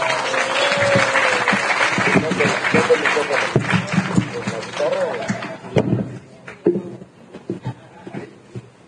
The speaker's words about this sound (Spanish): Un aplauso para él